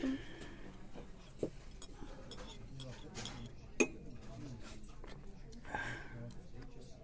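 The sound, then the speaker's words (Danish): Glasses clink together in a toast: a few bright, ringing chinks spaced seconds apart, one louder than the rest, amid quiet clatter of cutlery and soft voices at a table. “Skål.”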